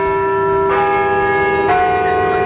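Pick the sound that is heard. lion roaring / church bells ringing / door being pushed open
church bells ringing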